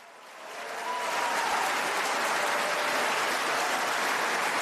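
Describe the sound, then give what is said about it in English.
Audience applause for a speaker demanding that the billions spent on Ukraine be returned swells quickly from a softer start into a dense, steady wash of clapping that holds at a strong, even level without any voices on top. “We want our money back. Applause.”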